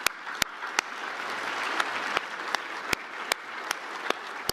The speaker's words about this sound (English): And I want to thank our, actually, let's have a round of applause for all of our sponsors first.